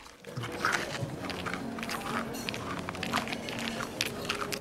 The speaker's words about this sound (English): Mr. Bean turns the langoustine around, pokes its body into his mouth and chomps his teeth down on the shell. With one eye wide open and the other tightly shut, Mr. Bean eats.